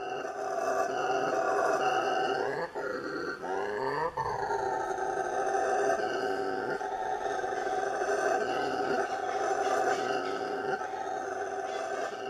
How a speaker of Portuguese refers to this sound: Vamos ouvir o som do macaco bugio, o primata mais barulhento do Brasil.